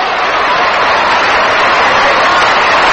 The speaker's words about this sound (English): Dodger fans begin a little hand clapping now in the background.